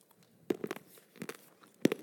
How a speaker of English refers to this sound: I'm chewing. I'm sorry, guys.